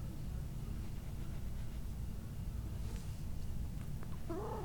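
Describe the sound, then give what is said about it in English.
A cat under a door gives a short, rolling trill near the end, rising out of a steady low background rumble and hiss. No one speaks. “Oh, what's that, a brr?”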